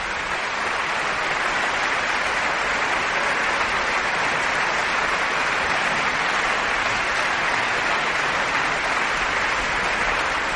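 Sustained applause from a large concert audience for the RTVE Symphony Orchestra and conductor Enrique García Asensio after Borodin's Second Symphony, closing Radio Nacional de España's 75th anniversary concert: a dense steady roar of clapping that holds evenly loud throughout, with no voices above it.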